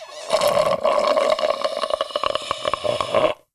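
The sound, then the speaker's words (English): Liquid pours steadily into a cup or glass for about three seconds as a drink is refilled, a bubbly gurgle with a ringing tone, then cuts off abruptly. No one speaks. “Okay, I have to refill my beverage.”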